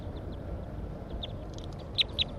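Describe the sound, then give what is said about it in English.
Short, high-pitched calls of a caught subadult female bird: a few faint chirps at first, then two sharper, louder notes in quick succession near the end, over a steady low rumble with no talking. “So recording, I just caught a bird, subadult female.”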